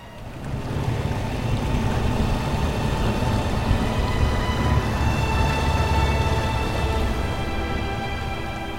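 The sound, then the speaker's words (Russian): A motorboat engine runs steadily at night as the boat turns toward the shore, a loud, continuous low drone with a whining tone above it and water noise mixed in, with no one talking. “Катер повернул к берегу.”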